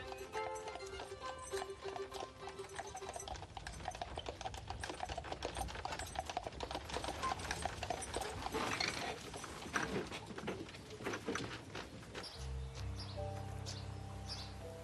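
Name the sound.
horse-drawn carriage hooves clip-clopping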